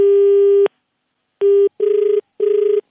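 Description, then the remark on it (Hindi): A telephone rings for a repeated incoming call from the same caller, with electronic tones: a long steady beep, a pause, a shorter beep, then two buzzy, warbling bursts. The ringing is loud, and no one speaks. “Hello, अबे क्या है भाई, क्यों फोन किया फिर से?”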